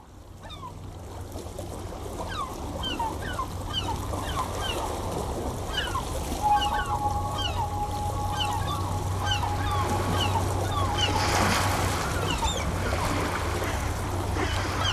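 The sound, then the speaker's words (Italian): Gentle waves lap steadily in a continuous watery wash, with gulls calling repeatedly overhead and a low, constant engine-like hum underneath throughout. “si sentono i gabbiani, c'è lo sciabordio delle onde, senti il rumore dell'acqua.”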